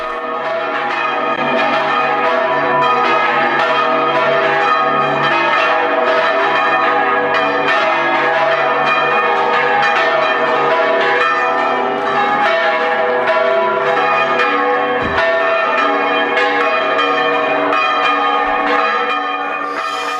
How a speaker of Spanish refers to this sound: Este toque manual de campanas en España acaba de entrar a formar parte de la lista representativa de Patrimonio Cultural Inmaterial de la Humanidad de la UNESCO.